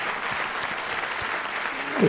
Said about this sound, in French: Combien je me réjouis de voir l'harmonie bayonnaise en pleine forme comme aujourd'hui. Je vous demande de les applaudir bien fort.